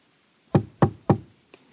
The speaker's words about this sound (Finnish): Eräänä yönä joku koputti Alicen makuuhuoneen ikkunaa.